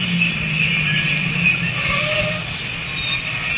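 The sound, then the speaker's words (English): A parked car's engine idles at the corner of Warrenburg and Paoli Streets: a steady, low rumble without changing pitch, wrapped in a constant hiss with a faint high whine above it. No voices are heard. “Leave the engine running.”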